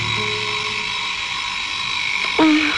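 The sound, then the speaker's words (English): A steady, raspy electric buzz drones on without pause, then jumps to a louder, harsher burst just before the end, like an alarm clock buzzing. No voices are heard. “Your alarm to wake you up. Turn it off.”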